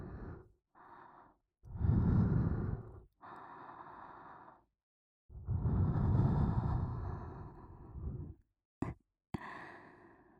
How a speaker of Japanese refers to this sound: 耳なめ気持ちいいね。熱い吐息ももう一回流し込んであげようか。